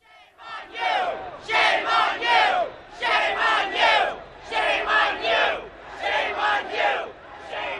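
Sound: crowd cheering and shouting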